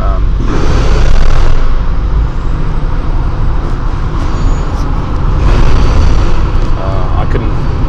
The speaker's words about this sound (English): Can name the cars going past. How about that? There's a Volkswagen van going through. Now a Porsche Cayenne. There's now another Volkswagen coming through. A hatchback Polo. Now a Ford Transit. There's a cyclist coming through.